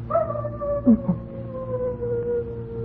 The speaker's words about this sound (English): Listen, the foxes are barking up on the ridge. They begin barking about this time of year. The mating season.